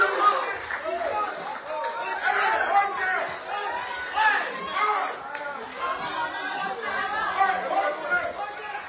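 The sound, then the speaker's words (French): An angry crowd of voters shouting in a hall at a municipal council installation after Félix Tokorani was elected mayor by the councillors, filmed in videos posted on Facebook; many raised voices overlap in a dense, continuous clamor that swells and dips without pause. “Et la colère de la salle, comme on peut l'entendre sur ces vidéos diffusées sur Facebook.”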